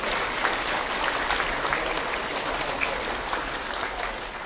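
Steady, sustained applause from a large crowd at a pilgrims' gathering in Tuchów, Poland, a dense wash of clapping hands that holds at an even, fairly loud level throughout with no voices standing out.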